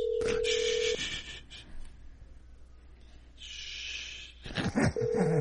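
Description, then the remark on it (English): An outgoing call's ringback tone on a call to a man's phone that goes unanswered: a steady electronic ring lasting about a second, a pause of several seconds filled with faint hiss and rustling, then the ring starting again. “Purposely won't answer the phone because he's a scumbag like that.”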